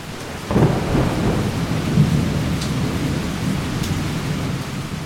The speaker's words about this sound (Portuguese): Para completar, uma forte tempestade jogou contra os tupinambás. Eles tentaram invadir o arraial por terra usando flechas incendiárias, mas a água da chuva ajudou a apagar o fogo nos casebres.